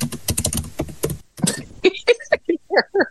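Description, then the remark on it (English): Fast, loud keyboard typing: a dense flurry of clacking keys, a brief pause, then a handful of slower, emphatic keystrokes struck one by one. “I like how you did the dramatic keyboard there, by the way.”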